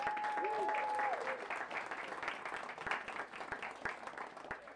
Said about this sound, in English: Jonah, come forward. Round of applause for Jonah, please.